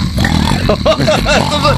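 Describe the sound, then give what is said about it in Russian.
A voice imitates a bulldog snorting in its sleep: a continuous rough, gravelly rumble with short nasal, wavering snorts over a couple of seconds, fairly loud. “Наверняка знаю, что бульдоги издают во сне звуки по типу”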